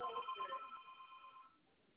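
A phone rings with an electronic ringtone, a short burst of bright warbling tones that sounds for about a second and a half and then fades away, fairly quiet, with no one speaking.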